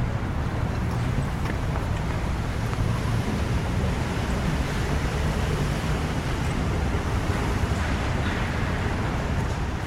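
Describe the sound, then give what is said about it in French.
A continuous wash of moving water echoes under a stone riverside vault almost beneath the Hôtel de Ville, opposite Notre-Dame, a steady, dense hiss layered over a deep low rumble, even in loudness throughout with no voices. “Il y a la réverbération sur l'eau, tu as le bruit.”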